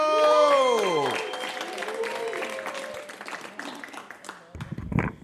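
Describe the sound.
Loud audience applause with dense, steady clapping and a few falling whoops at the start, gradually thinning out before a voice cuts in at the end.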